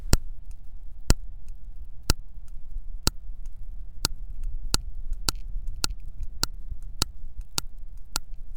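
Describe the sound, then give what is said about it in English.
Sharp, evenly spaced clicks from a hunting female sperm whale deep off the waters of Dominica, recorded from a sensor on a sucker on her back, about one per second, quickening toward the end, over a low, steady underwater rumble. No voices. “These are the clicks made by a hunting sperm whale deep off the waters of Dominica, recorded from a sensor placed on a sucker on her back.”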